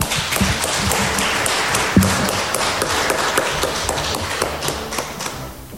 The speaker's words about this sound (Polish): Dziękuję. Dziękuję serdecznie. Proszę o brawa.